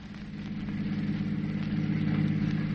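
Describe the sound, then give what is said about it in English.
A car engine idles with a steady, low rumbling hum, continuous, growing slightly louder toward the end. It is a car given to a traveling book salesman by his employer, Wentworth and Wrigley. No one speaks. “They gave him a car to drive around in,”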